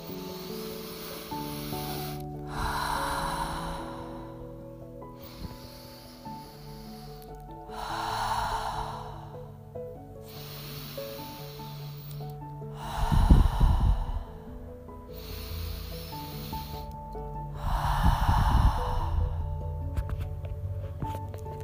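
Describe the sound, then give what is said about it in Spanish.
Four slow, deep breaths drawn in through the nose, each a soft airy rush a few seconds apart, over a steady background of gentle music with no talking. “Y la vamos a volver a normalizar con un ciclo de 4 respiraciones profundas por la nariz o por la nariz y por la boca.”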